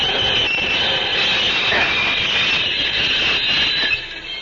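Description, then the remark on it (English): A locomotive train runs steadily, a loud continuous rumble layered with a high, hissing metallic whine that holds throughout, dipping slightly near the end, with no voices. “I will stop this locomotive.”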